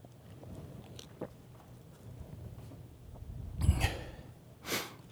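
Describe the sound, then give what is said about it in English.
Someone takes a sip of water: after quiet rustling, a brief wet slurp and swallow, then a short breathy exhale. No one speaks. “Every time I take a drink of water, I look at that and I'm reminded of that old preacher joke.”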